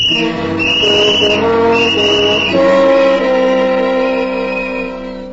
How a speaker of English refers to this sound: It wasn't long before my father began to regret that I had been given a whistle. It held a growing fascination for me, and I was seldom without it, whether out of doors or in the house.